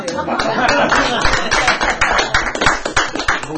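An audience at a meeting claps steadily for several seconds, a dense, bright patter of many hands with a slight flutter in loudness and no voices standing out.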